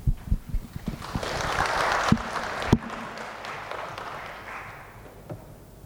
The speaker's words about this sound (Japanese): 拍手を持ってお迎えいたしましょう。